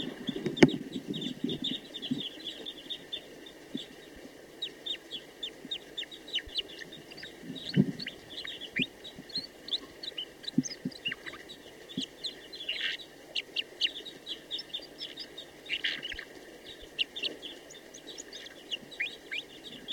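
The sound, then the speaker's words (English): A female bird sings steadily, pouring out rapid, high-pitched chirps in an uneven rhythm, mixed with a few lower clucking notes. There is no talking, only the bird and a faint background hum. “So recording, that female is now in good song.”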